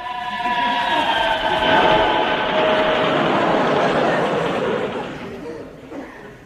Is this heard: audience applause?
no